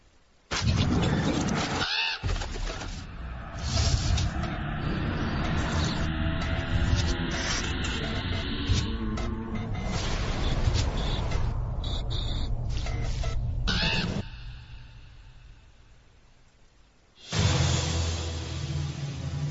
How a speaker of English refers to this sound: For those curious, this is what the current Sting music sounds like.